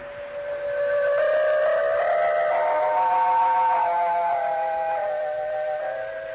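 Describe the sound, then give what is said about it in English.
A steam train arriving at a town station at midnight sounds its whistle in a long, wavering multi-tone blast that swells and holds for several seconds before easing off, loud, with no voices. “He came to our town on the midnight train.”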